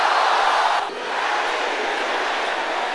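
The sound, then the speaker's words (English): A crowd of brothers and sisters shouting a prayer together in a loud, continuous roar, briefly dipping before surging back just as strongly; no single voice stands out from the mass. “Let me hear the sisters shouting it louder.”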